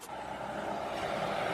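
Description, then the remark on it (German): A truck on a road near the Greek border rumbles and hisses steadily, growing slightly louder as it approaches, a continuous roar of engine and tyres with no talking. “Es kommt ein LKW.”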